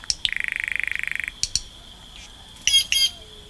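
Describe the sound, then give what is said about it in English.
A green jay, a green, yellow and blue bird in the Rio Grande Valley of Texas, runs through a mix of calls: a rapid mechanical rattle lasting about a second, a couple of sharp clicks, then two harsh, raspy squawks, all clear with no one talking. “A green jay, the very picture of a tropical bird feathered in green, yellow, and blue, offers its varied voices.”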